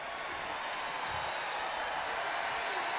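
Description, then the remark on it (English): A convention crowd in Milwaukee cheering and roaring in a steady, dense wash of many voices, holding an even level for about three seconds with no single voice standing out. “Listen to that crowd.”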